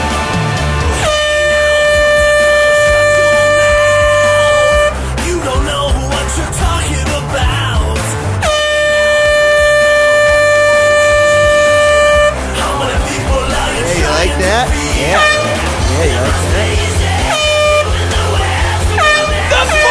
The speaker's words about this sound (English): our new foghorn player. Check out this demo we made.